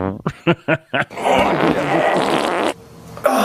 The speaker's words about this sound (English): But then people often hear a fart when, like if I move my chair. Okay, it's not doing it.